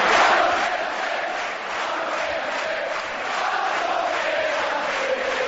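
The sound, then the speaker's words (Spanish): A big crowd of CAI basketball fans at the Pabellón Príncipe Felipe chants "Pablo, quédate" to player Pablo Aguilar after the season's end. The chant is a loud, dense roar of many voices that swells and dips slightly in rhythm for several seconds. “Pablo, quédate, gritaba la afición del Príncipe Felipe ante un emocionado Pablo Aguilar que aseguraba haber vivido uno de sus mejores años deportivos aquí en el CAI.”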